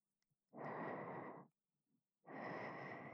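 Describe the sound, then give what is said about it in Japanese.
Shallow, suppressed breathing: two breathy exhales, each about a second long, with a short quiet pause between them. The breaths sound like a soft, airy hiss, and no one speaks. “ふぅ、ふぅって、押し殺すような浅い呼吸。”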